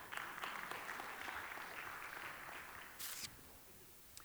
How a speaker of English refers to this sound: give him a hand clap.